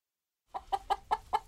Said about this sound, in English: They have a red hen house full of chickens. It started with four, maybe 3 years ago.